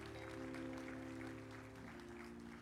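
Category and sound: crowd, audience applauding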